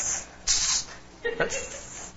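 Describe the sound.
A voice mimics an aerosol spray can with two breathy hissing bursts, a short one followed by a longer sustained one, fairly loud.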